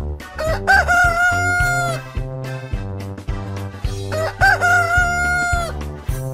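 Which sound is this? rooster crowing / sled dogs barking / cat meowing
rooster crowing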